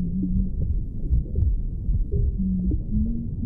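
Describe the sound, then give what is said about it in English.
A mother's heartbeat as heard from inside the womb: steady, muffled thuds pulsing beneath a dense, low whooshing rumble, with faint, smeared tonal sounds drifting through. “Rhythm is there right at the start of our hearing, because we're going to hear the heartbeat of our mother very strongly.”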